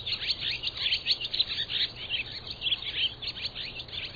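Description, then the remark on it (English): A busy, continuous chorus of swallows twittering, many overlapping high chirps and trills blending together at moderate volume with no voices present. “Migrating by day, swallows forage for insects as they move south.”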